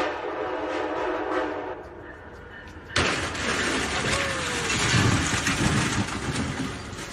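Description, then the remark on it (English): A train rumbles with a horn sounding, then about halfway through a sudden loud burst of clattering, grinding noise as the train rolls over and crushes a robot delivery vehicle, continuing as a heavy roar to the end. “here's the guy that they didn't interview, the guy who got the video of the robot delivery thing being crushed by the train.”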